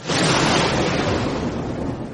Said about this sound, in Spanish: Era de noche y había una gran tormenta.